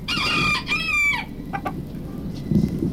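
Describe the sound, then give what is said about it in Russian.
A rooster named Petya the Rooster, part of a small animal theatre, crows loudly, a strained harmonic call in two bursts lasting about a second, followed by a few short clucks over a low rumble of background noise. “Это Петя Петушок поздоровался с нами.”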